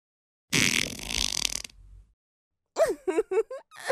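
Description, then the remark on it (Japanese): A loud, raspy fart lasting about a second, trailing off into a low sputter, followed after a short pause by a few quick, bouncy vocal sounds. “おならでそう。”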